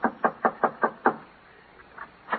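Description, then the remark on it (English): A quick run of six evenly spaced knocks on the wooden front door of a house, fairly loud, followed by a short pause and a couple of softer, scattered knocks. No one speaks. “Yeah, knock on the door.”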